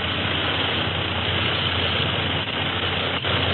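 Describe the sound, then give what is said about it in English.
A steady, unbroken engine drone with a deep low hum beneath a dense roar, holding an even loudness throughout, like an aircraft motor running in flight. No voices are heard. “some of them bullets punctured our reserves, and the motor will conk out on us any minute”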